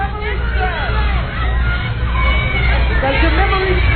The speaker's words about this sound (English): They're all yelling the words to him.